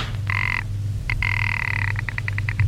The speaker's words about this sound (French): Monte le perron. Sonne à la porte. La porte s'ouvre.